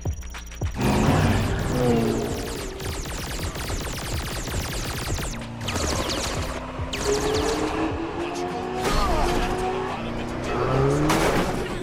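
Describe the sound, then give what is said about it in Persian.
A car races at high speed, engine roaring loud, with repeated sharp tire squeals and skids rising and falling over nearly twelve seconds, and voices speak briefly underneath. “با این ماشین نمیتونم رالی رو گم کنم.”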